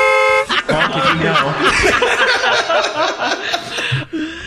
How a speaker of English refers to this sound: So there's always like a bunch of honking.